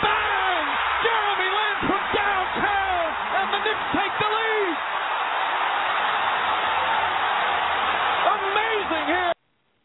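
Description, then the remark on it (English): A loud, dense arena crowd on its feet at the Air Canada Center roars and cheers continuously at an NBA basketball game involving the Raptors, with whoops and yells rising above the steady wall of noise, which cuts off abruptly at the end. “The crowd on its feet here at the Air Canada Center.”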